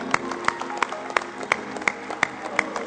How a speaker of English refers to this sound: Thank you, God. Come on, give Jesus a big hand clap of praise.